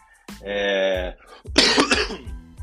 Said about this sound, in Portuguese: Se eu não tossi no podcast, não é o meu podcast.